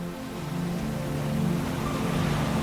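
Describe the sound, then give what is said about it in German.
Steady ocean waves roll in a continuous, even wash of surf, moderately loud, with a low rumbling undertone and no voices. “Lass die Geräusche in sie eindringen, die stetigen Wellen.”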